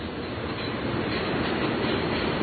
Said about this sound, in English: Yeah, here's another train over here. That sounds like another freight train. It's a second freight train.